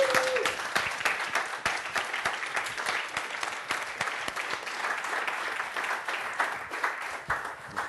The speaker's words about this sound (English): maybe a good time to give them a nice big round of applause.